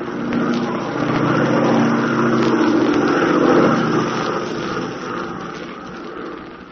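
An airplane piloted by Tula drones steadily in flight, a loud, continuous low engine rumble with a layered hum that swells slightly midway before easing off, with no voices over it.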